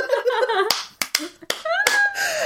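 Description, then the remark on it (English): Several sharp hand claps land at irregular intervals, each a crisp smack, interspersed with bursts of voiced sound from people. “Don't suggest it to her, because the next stage is that she does it in front of this woman, farts and then claps every time.”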